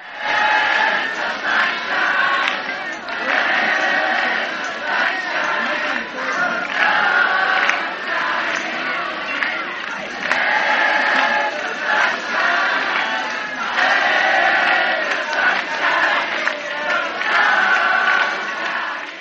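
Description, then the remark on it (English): A large outdoor festival crowd in hard rain and mud roars and shouts continuously, a dense wash of many voices cheering together that swells and dips slightly but never stops for the whole stretch. “Instead of despairing at the discomfort of rain and mud, the crowd rejoiced in its power to resist the weather.”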